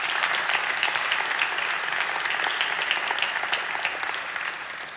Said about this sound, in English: Would you give him a hand clap offering tonight?